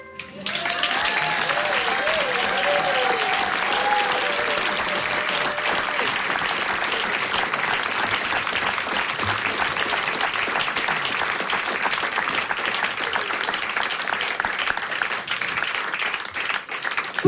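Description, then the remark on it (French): Sustained audience applause as Jean-Luc Mélenchon is introduced fills the whole stretch, a dense, steady roar of many hands clapping, with a few faint vocal tones rising briefly near the start. “Exclusive et sous vos applaudissements, Jean-Luc Mélenchon.”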